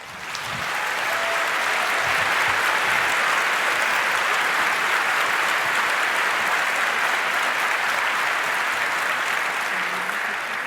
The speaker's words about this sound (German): Darum viel, viel Spaß und erstmal einen dicken Applaus, um reinzukommen.